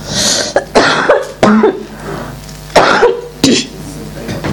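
A speaker coughs repeatedly, with several sharp, harsh bursts spaced unevenly over a few seconds and some throat-clearing between them. No speech is heard.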